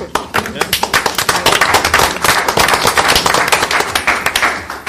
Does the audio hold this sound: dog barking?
no